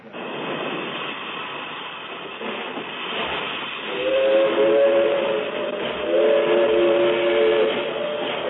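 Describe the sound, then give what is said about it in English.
A steam train idles at the Pekin railroad station with a loud, steady hiss of escaping steam, and a shrill whistle sounds twice in long blasts partway through. No one speaks. “I met Dick Fawcett again, this time at the Pekin Railroad Station”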